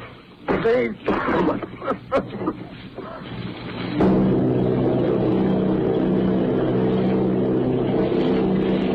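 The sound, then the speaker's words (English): A voice speaks briefly, then the loud, steady drone of the propeller engines of eight Army bombers, including bombing plane B-843 off Bayo, New Jersey, takes over, a continuous low humming roar that holds evenly to the end. “Army bombing plane B-843 off Bayo, New Jersey. Lieutenant Bolt commanding 8 bombers, reporting to Commander Fairfax, Langham Field.”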